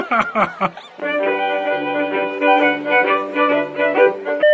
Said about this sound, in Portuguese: Toca o celular, uma música italiana.